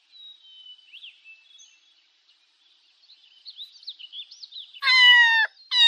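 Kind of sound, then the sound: animal, cat meowing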